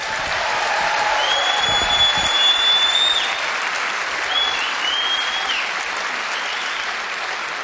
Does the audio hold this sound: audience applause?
yes